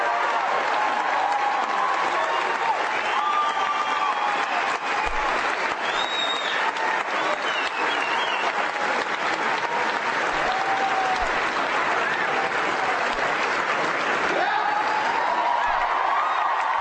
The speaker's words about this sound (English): And now they're all standing up and applauding, but they don't understand.